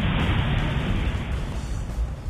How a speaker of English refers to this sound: the sound that I remember that I haven't heard in years is an airplane breaking the sound barrier.